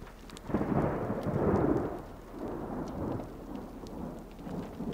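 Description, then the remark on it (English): Low rolling thunder rumbles through steady rain during an intensifying storm, heard from a vehicle pulled over and stopped, swelling in the first two seconds and then easing into a softer, continuing grumble beneath the patter of falling drops. “Yes, I think there is thunder.”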